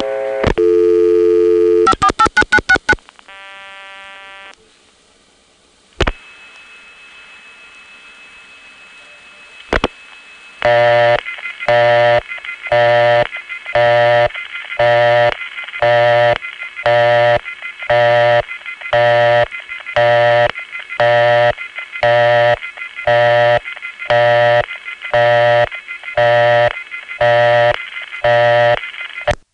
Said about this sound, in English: That busy signal with the receiver off hook tone is unmistakably number one crossbar. It's amazing how in the Bell system, each equipment type colors the busy signal in a way that makes it unmistakable which type of switch you have reached.